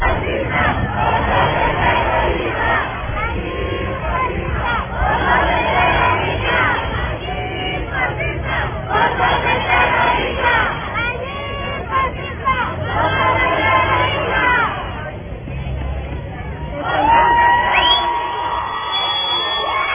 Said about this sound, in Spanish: Miren ustedes lo que se captó cuando están gritando bajo la lluvia. Escuchen ese momento, porque no lo pasó ninguno. Yo busqué y no lo pasó ninguno. Escuchen eso.